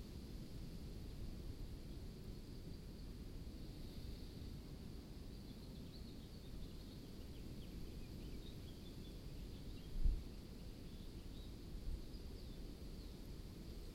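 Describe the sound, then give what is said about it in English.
A steady, soft wash of breeze and ocean surf fills the scene, with faint, scattered bird chirps high above it. It stays quiet and even throughout, with no voices. “Softly breathing, listening to the breeze and the birds and the ocean in the background.”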